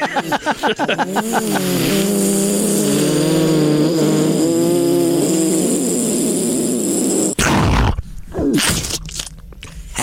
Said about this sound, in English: Oh, no, the drones again.